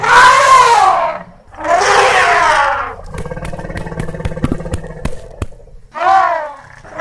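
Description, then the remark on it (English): Loud elephant trumpeting: two long, brassy, wavering blasts back to back, then a stretch of clattering, thumping knocks before a third shorter trumpet call at the end. No one speaks. “No, that's not a Gay T-Rex Law Firm Executive Boner kind of critter. It's elephant stamp time.”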